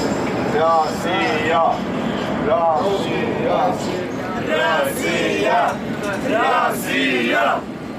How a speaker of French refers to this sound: Voilà, de l'ambiance. Alors, en fait, c'est des Polonais. Et c'est vrai, ce sont des Polonais qui, sortant du match contre le Sénégal, oui, ont repris le métro pour rentrer à leur hôtel et ont chanté Roussia l'espace de quelques secondes.